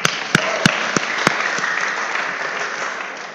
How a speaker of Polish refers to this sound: Super, to jesteście, moi drodzy, we właściwym miejscu, więc gorące brawa dla was.